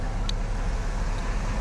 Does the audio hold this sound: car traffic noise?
yes